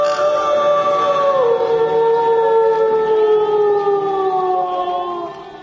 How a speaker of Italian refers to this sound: Poi un altro. E un altro ancora finché, portato dal vento che soffiava lieve dal passo, un coro di ululati selvaggi si diffuse dovunque, come se venisse da un angolo del paese, fin dove la fantasia arrivava nell'oscurità della notte.